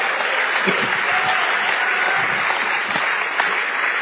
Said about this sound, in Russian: Скажи аминь. Подари Богу аплодисменты.